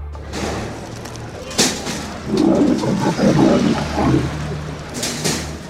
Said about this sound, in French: Mais vous allez vite comprendre pourquoi il y a un lion là juste dans le studio.